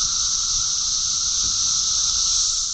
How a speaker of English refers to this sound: Trillions of cicadas are starting to emerge above ground in the eastern U.S. Not millions or billions, trillions of these insects, from Indiana to Georgia to New York. They've been waiting for this moment for 17 years, living below ground in the dark